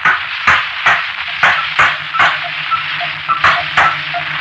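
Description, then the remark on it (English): A hammer strikes a small, fragile-looking machine resembling a camera, lying on a table, again and again: about ten sharp metallic blows in a steady rhythm roughly twice a second, over a faint low hum. “Now, observe, here. Here is a hammer.”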